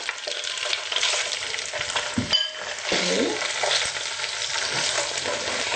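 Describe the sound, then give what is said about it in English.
Steady sizzling of tofu frying in olive oil in a frying pan over medium-high heat, with a sharp clatter of a utensil and scraping stir strokes breaking through the continuous crackle. No one speaks. “So we're going to stir the tofu in the frying pan.”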